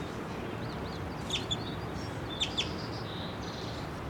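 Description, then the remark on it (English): A small male bird on the ground a few feet away chitters with brief, high chirps coming in quick pairs, set against a steady hiss of outdoor background noise; the calls are fairly soft. “He's on the ground right now. I see him chittering.”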